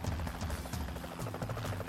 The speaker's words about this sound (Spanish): Entonces escucharon el helicóptero. El piloto vio a 4 hombres cerca del pantano de Great Dover.